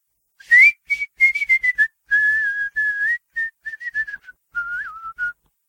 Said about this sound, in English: whistled a calliope tune.